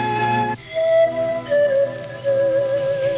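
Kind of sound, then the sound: flute playing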